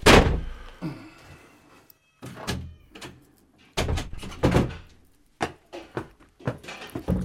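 A door is pushed shut with a loud wooden thunk, followed by several more knocks and bumps as it is jostled and settled in its frame, with no talking.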